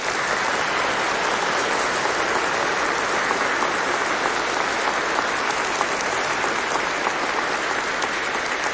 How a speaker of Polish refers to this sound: Dlatego, kochani, na samym początku bardzo gorące i serdeczne pozdrowienia wyrażone naszymi gorącymi oklaskami przekażmy tym wszystkim, którzy w tym momencie są razem z nami połączeni. A zatem pozdrawiamy wszystkich słuchaczy Radia Maryja.